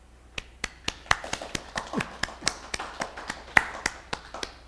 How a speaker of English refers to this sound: Good for him. I think we should applaud right now Daitso Chisho Buddha. He never got anything done.